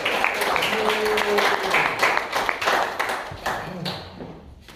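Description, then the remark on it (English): An audience claps and applauds for the first speaker in a dense, steady patter of many hands, loud at first and thinning out toward the end, with murmuring voices mixed in. “So let's give him a round of applause, guys.”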